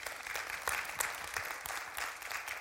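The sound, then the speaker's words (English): A church audience applauds the year's $59,560 in gifts to Christ, a steady wash of many hands clapping at once, dense and even throughout with no voices standing out. “And yes, you can applaud that.”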